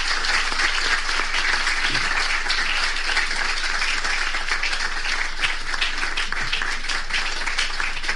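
A large audience claps steadily and loudly for several seconds after a speech by Apostle Joshua Selban on faith in contemporary society, a dense, continuous wash of many hands with no voices breaking through.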